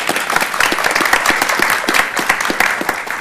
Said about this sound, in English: perhaps we could suspend the rules and give her a round of applause for her service.